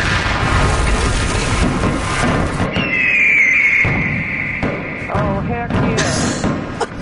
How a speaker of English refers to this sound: Are those fireworks in the background? Those are fireworks in the back. The fireworks are the best.